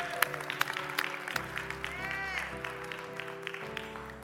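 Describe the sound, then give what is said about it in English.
An audience claps steadily for several seconds, a dense patter of hand claps at moderate volume, with sustained musical tones holding underneath the whole time. “Hey, come on, just clap just a little bit more.”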